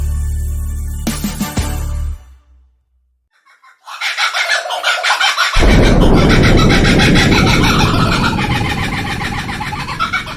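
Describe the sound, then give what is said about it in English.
A kookaburra's laughing call erupts after a brief silence, a loud, rolling cackle of rapid repeated hoots that builds and keeps going for several seconds. “But the kookaburra would laugh and laugh if you tried to sing his songs.”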